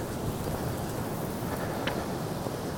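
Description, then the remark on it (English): Strong wind blowing outdoors along a walking trail on a very windy day with some sun, a steady low roar and rumble that holds at the same loudness throughout, with one brief higher-pitched chirp partway through and no voices. “It's very windy today.”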